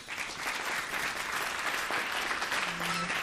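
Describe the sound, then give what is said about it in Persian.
Steady applause from everyone present after a speaker asks all to clap, a dense wash of many hands clapping at an even level for a few seconds without any talking. “خب همه دوستان تشویق کنین لطفا.”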